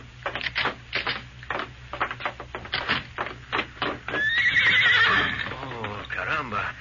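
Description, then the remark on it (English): A white horse gives one loud, wavering whinny, preceded by a run of quick clattering knocks that sound like hooves, with a low hum underneath. “Where would a boy get such a beautiful horse as this?”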